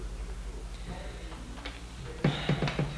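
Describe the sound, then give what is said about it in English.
A few sharp clock ticks arrive near the end in quick succession, fairly loud against a low steady hum, with only faint rustling before them. “The clock talked loud.”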